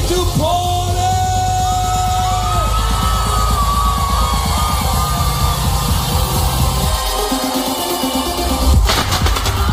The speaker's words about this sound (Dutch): Vuurwerk erbij.